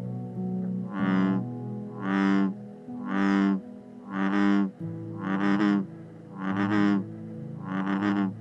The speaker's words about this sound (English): The bellowing voice of a bullfrog, which is very loud in the summertime when calling for mates, is why they got the name bullfrog, kind of like a bullhorn, which amplifies a sound.